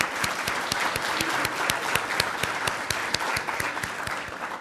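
Steady applause from an audience fills the whole stretch, many hands clapping together in a dense, even patter at moderate loudness, with a few sharper individual claps standing out.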